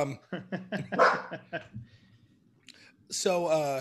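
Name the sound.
dog barking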